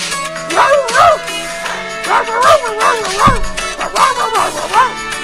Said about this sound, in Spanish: Oye, el perro qué bonito canta.